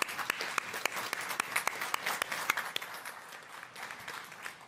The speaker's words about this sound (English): Okay, and I think we give a round of applause to the people who've served this country.